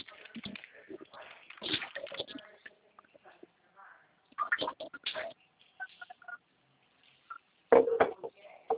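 Dishes and cutlery clatter and clink in irregular bursts as someone washes the dishes, with brief quiet gaps between them and a louder cluster of knocks near the end. No steady stream of running water stands out.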